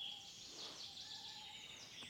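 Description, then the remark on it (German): Faint, distant bird calls drift through a quiet outdoor background, thin whistled tones rising and falling over a soft, high chirring hiss, with no voices present. “Das hört sich fast an wie eine Eule oder so.”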